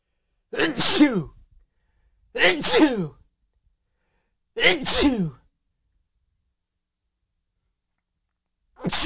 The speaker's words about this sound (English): Oh my God, I'm about to sneeze.